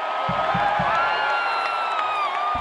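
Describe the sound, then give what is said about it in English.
A dense, roaring stadium crowd in Section 106 cheers continuously as the Timbers beat the Sounders 3-2 before a sold-out crowd, with high whistles and shouts layered over the din and a few low thumping beats near the start. “Back in Section 106, the crowd is going wild.”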